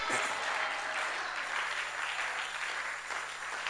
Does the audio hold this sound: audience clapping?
yes